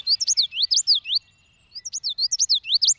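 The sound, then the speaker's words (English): A common yellowthroat sings two loud bouts of its rolling, rhythmic song, quick repeated phrases of high slurred notes separated by a brief pause, with no other voices. “Let's spotlight the common yellowthroat.”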